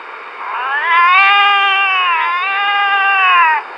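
cat meowing

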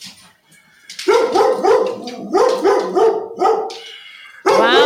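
dog barking

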